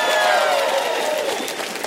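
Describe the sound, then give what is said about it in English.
An Elevation church audience applauds an announced expansion with a 1,500-seat auditorium: dense clapping mixed with a few cheers and whoops, steady and sustained throughout, easing slightly toward the end. “And I hope you're clapping that loud when I tell you how much it's going to cost.”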